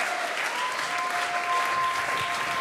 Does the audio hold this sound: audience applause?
yes